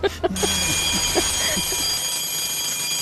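A school-bell sound, not a real school bell, marking the end of break rings with a continuous, steady, high-pitched electric tone that holds for the whole clip, while a few brief voices murmur underneath at the start.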